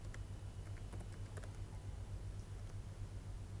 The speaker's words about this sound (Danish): Sådan der. Nej, jeg fik lige tastet noget forkert